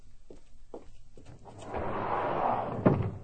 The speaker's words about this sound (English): All you have to do is open your sliding glass door.